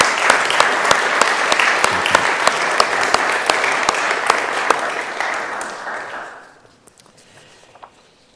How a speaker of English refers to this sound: I actually want us to acknowledge them with a round of applause. I think it's wonderful. Thank you.